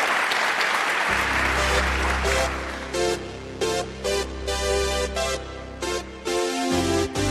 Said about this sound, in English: Give him a big round of applause, everybody.